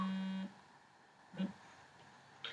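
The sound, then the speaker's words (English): A steady, buzzy phone tone sounds for about half a second and cuts off as a landline phone dials a mobile number that rings on an Apple Watch, followed by two short electronic blips spaced about a second apart. “Okay, it's dialing.”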